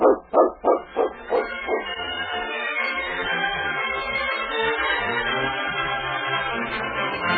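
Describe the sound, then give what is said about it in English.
A dog lets out about five quick, loud barks in a rapid rhythmic burst, then falls silent as a steady, sustained tonal sound carries on underneath. “Dogs are the best friends in the world, aren't they, King?”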